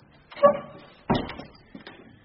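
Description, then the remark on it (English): A heavy door into an old artillery gun building creaks open with a short groaning squeal, then lands with a solid thud, followed by a fainter knock as it settles. No talking. “Well, we'll make our way in through one of the doors here.”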